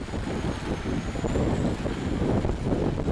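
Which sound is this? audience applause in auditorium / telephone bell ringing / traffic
traffic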